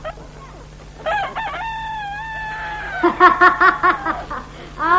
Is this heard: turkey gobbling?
yes